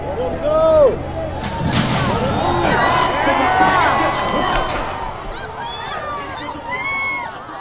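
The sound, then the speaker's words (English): A large horse-racing crowd roars and cheers without pause, pressing toward the rail along the outside of the track as the horses enter the starting gate, many voices shouting over one another in a loud, steady wall of noise, with higher yells rising and falling throughout. “the crowd pressed toward the rail along the outside of the track.”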